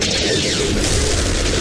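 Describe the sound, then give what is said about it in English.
A loud cannon shot fires, its heavy roaring blast spreading into a dense, sustained rumble that holds steady for over a second, with no voices. “Watch that shot fire, boys.”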